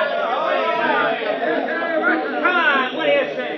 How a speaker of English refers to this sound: The crowd's howling for something to happen. They're really fighting mad. We'll turn up our field microphone so you can hear them.